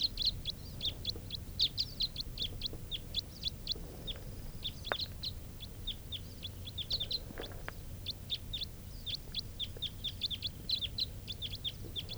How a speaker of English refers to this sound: sounds like a crossbill flying in. Type 4 bird.